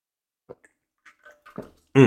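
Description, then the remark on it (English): Quiet handling sounds, a few soft clicks and light sloshing as a water bottle is picked up and sipped, ending in a sudden loud, breathy exhale right at the microphone. “So I had to grab some water because I didn't have time to pause.”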